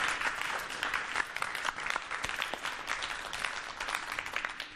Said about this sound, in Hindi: तालियों से इनकी हौसला अफजाई कीजिएगा।